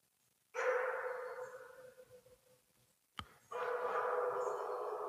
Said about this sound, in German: So, wir hören hier eine Mischung aus Bellen und Heulen, aber eindeutig im Vordergrund steht das Bellen. Ja. Spektakulär, oder? Ja. Auch Wölfe können bellen, ja.